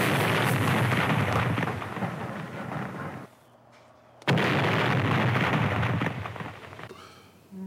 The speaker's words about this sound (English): Other special effects to talk about are things like the explosions.